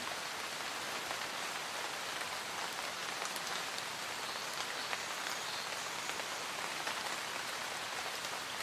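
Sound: pattering rain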